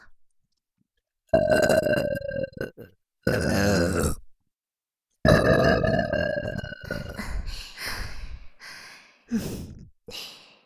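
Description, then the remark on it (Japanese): Several loud, drawn-out burps given as a welcome, in close succession, deep and croaky, separated by brief pauses, with a long rumbling one in the middle and shorter ones trailing off at the end. No talking. “あまり散らしてもいけませんし、まずは歓迎のゲップ、行きましょう。”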